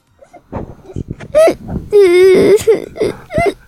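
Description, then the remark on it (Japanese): A child's voice fakes crying on cue as an acting demonstration, with short sobbing gasps building into a wavering, drawn-out wail and a few hiccuping catches, fairly loud, lasting a few seconds. “あ、泣いてる。 あ、泣かした。”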